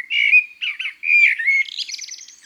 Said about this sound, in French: Voici maintenant les oiseaux mélodistes, qui nous charment par leur musicalité et leur sens de l'improvisation.